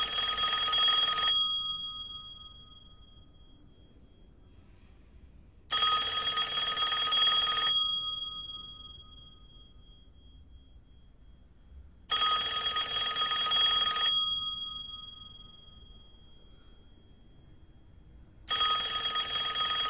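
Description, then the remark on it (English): A telephone bell rings in bright, rattling bursts of about two seconds, repeating at a steady pace with quiet gaps between. Four rings, the last cut off, with no voices. “It rang and rang and rang, and I couldn't move.”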